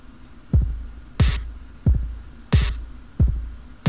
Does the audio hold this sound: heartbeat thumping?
yes